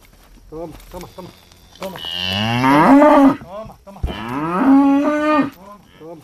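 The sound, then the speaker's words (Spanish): Two long, loud cow moos, one after another, each a rising, drawn-out bellow, with a few faint voices talking quietly in the background between them, on a farm in Carcaboso where cows and horses graze. “visitando la finca donde pastan sus vacas y sus caballos”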